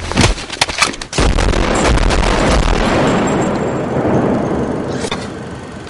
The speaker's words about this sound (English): Okay. Okay. There were many explosions. The person that was threatening got their gun taken away, and they were shot with their own gun,